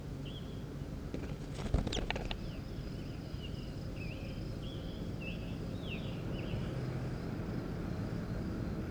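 A bird, the fourteenth one recorded, sits on the ground and then walks away, giving a string of faint, short high chirps over a steady low rumbling background, with a brief cluster of clicks and rustles early on.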